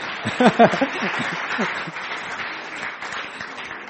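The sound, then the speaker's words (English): A church audience breaks into steady applause for a worship team member who has just played music, a dense wash of clapping that holds for several seconds, with a few voices calling out and laughing near the start. “Man, she deserves a round of applause.”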